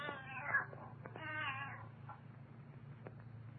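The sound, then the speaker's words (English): A cat named Ophelia lets out two drawn-out, wavering meows, one right after the other, over a low steady hum. Nobody speaks. “And what kind of a name is that for a cat?”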